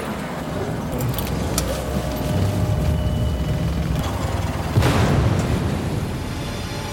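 car bomb explosion

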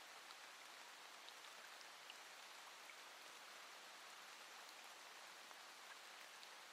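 rain falling

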